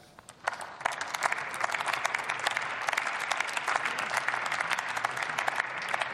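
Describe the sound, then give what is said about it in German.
A crowd breaks into sustained applause for the German veterans' movement, a dense wash of many hands clapping steadily, rising quickly and holding its level throughout with no voices on top. “Eure professionelle Arbeit, Herzblut für die Sache und kameradschaftliche Fürsorge verdient unsere Dankbarkeit, Anerkennung und Wertschätzung, aber auch unseren Applaus.”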